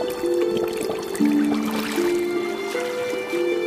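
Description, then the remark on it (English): Water bubbling steadily, a continuous gurgling with shifting tones and small pops, with no voices heard. “Bubbles.”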